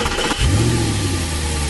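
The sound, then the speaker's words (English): A car engine cranks briefly, then catches and revs up, settling into a steady, loud rumble. No one speaks. “Your car starting and getting you where you need to be.”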